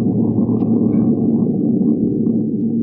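A steady, low airplane engine drone hums continuously as the plane flies 5,000 feet in the air headed for Palm Springs, a dense rumbling tone with a faint buzzing pitch on top and no pauses, holding the same loudness throughout.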